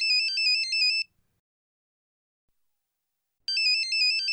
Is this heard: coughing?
no